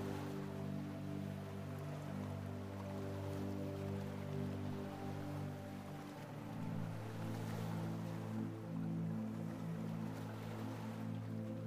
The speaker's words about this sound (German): Stell dir vor, wie du dich an einem wunderschönen Strand am Meer befindest. Nimm die Geräusche der Wellen wahr.